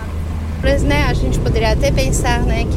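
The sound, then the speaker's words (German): A car carrying three students drives out of town in the morning in Mato Grosso do Sul, Brazil, with a steady, loud low engine rumble throughout, and after a brief moment a person begins talking over the continuous road drone. “Zusammen mit drei Studierenden fahren wir an diesem Vormittag mit dem Auto aus der Stadt heraus.”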